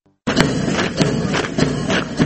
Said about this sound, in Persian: صدای قدم هایی است که برای تمرینات نظامی برداشته می شود.